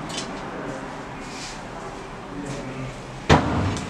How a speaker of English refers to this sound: It's a very heavy door.